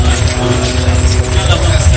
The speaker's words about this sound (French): Le bourdonnement permanent des drones qui tournent au-dessus de la ville, un son devenu quotidien et qui rappelle que la guerre est toujours là